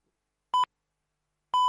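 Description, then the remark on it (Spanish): The Onda Madrid radio hourly time signal marking 10 o'clock: a short electronic pip followed one second later by a longer, sustained tone, both clear and steady against silence. “Son las 10.”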